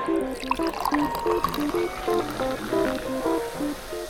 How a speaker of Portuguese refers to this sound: Agora que já temos o vinho na boca, e agora que pomos algum ar dentro do vinho, vamos confirmar os sabores que cheirámos anteriormente no vinho.